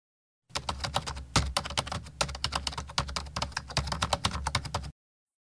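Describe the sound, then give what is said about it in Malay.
Rapid typing on a computer keyboard, a steady stream of crisp key clicks for about four seconds with no voices. “Okey, izinkan saya menaip ini sekejap.”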